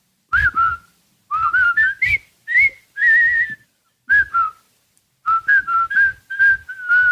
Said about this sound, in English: It's 1957, and a bunch of men are whistling to work.